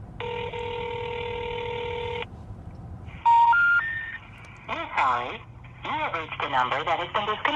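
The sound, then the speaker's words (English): A steady electronic phone tone hums for about two seconds, then a quick run of short touch-tone beeps as a telephone number from a list of possible numbers is dialed, followed by a voice speaking over the line. “Now, as we left the Mountain Oyster Club, I pulled up another list of possible numbers and dialed away.”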